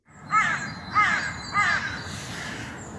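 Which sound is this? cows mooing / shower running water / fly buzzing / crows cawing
crows cawing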